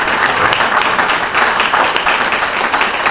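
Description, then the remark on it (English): A crowd applauds the organizers of an event, many hands clapping together in a dense, loud wash that holds evenly for the whole stretch with no voices on top. “Maybe if everyone doesn't mind, I think a big round of applause goes out to the organizers of the event for making it such a nice success.”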